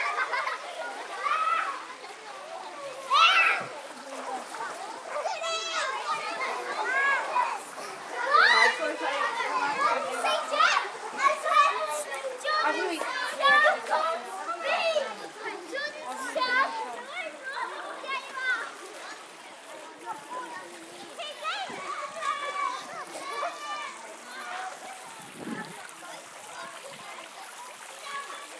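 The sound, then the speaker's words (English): Children shrieking and chattering while water splashes and slaps around them in an outdoor concrete council-built paddling pool in South Wales, a lively, continuous din of play with bursts of splashing throughout. “councils all over South Wales made paddling pools, and they're all identical, and they're all painted a light blue and kind of orangey yellow, and they're all made out of concrete, and they're all absolutely identical all over South Wales.”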